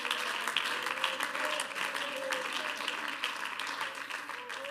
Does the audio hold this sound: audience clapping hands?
yes